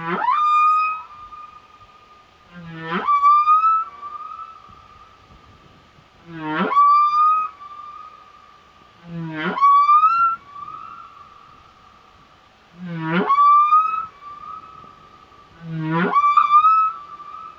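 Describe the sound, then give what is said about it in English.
Humpback whale calls repeat in a steady cycle, six phrases in all, each a low grunt sweeping up into a long, wavering moan. The song is clear and resonant, with no voices. “This whale was recorded by the International Fund for Animal Welfare for the British Library CD, Sounds of the Deep.”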